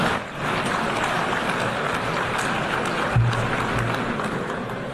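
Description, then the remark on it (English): Steady, dense applause from the audience at the U.N. after Donald Trump's remarks, a broad crackling wash of many hands clapping that holds at an even level throughout, with no voices rising above it. “And then they applaud, because they also know they have to keep it together, yep.”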